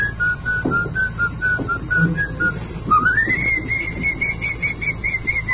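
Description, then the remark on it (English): A person whistles a melody, a clear bright tone of short repeated notes that glides upward into longer sustained ones, over a low background hum. “They don't have whistling programs anymore, either.”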